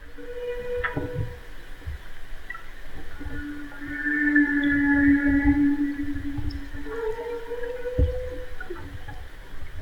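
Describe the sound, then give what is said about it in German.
Two humpback whales surface about 50 meters away, vocalizing: long, drawn-out tonal moans and higher wavering cries overlap continuously over a low, rumbling watery background, swelling louder midway, with no one talking. “Nein, Humpback. Buckelwale sind es.”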